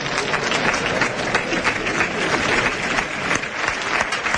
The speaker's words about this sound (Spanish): Bueno, la ovación de respetable, porque esto no se ve todos los días.